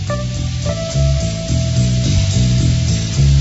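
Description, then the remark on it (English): Steady, hissing rain runs under a slow 1971 song, with a low, rhythmic bass line and a sustained electric keyboard tone. No one speaks. “Now, the thing that's a bummer about this song is not only is it raining in the background and talking about people dying in the desert, but the guy who sung it never heard it.”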